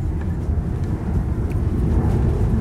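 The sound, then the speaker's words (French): A steady, heavy low roar of private jet engines rumbles continuously, fairly loud and unbroken, as private jets take off and land, with no voices over it. “Et pendant ce temps-là, les jets de la High Society décollent et atterrissent.”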